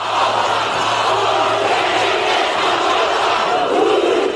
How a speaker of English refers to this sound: Their haka wasn't always coordinated. They nevertheless chanted to the rhythmic movement of arms and legs.